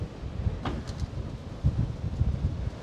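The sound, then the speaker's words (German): Gusty wind buffets the microphone in low, rumbling bursts, with a brief airy whoosh rising midway; a steady, blustery roar with no voices, at the top of a lighthouse tower above a rocky coast. “Hier oben pfeift der Wind.”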